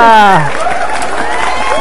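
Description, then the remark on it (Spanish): A singer's sustained voice slides down and ends a song, then a dense wash of audience applause and cheering rises, with scattered whoops over steady clapping, loud. “Ahí están tus aplausos bien merecidos”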